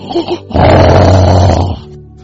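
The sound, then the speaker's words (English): A voice mimics loud, rasping snoring in one long, harsh, growling breath lasting over a second, forceful, with a couple of short vocal sounds just before it. “terrible snoring.”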